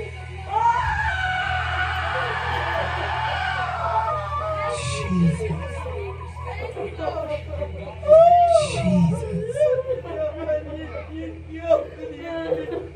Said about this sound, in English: I want all y'all to scream as loud as you can. Just release some stuff. On the count of three. One, two, three. Scream.